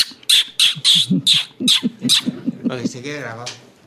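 A pet bird gives a rapid series of about seven harsh, raspy squawks, then breaks into a shorter run of warbling, chattering calls.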